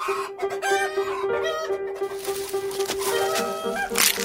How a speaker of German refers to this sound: Ich bin schon wieder auf ein Ei getreten. Gibt es denn eigentlich nichts als Hühner? Also wer hält denn heute noch Hühner? Die Hühnerzucht ist die einzige Leidenschaft des Kaisers.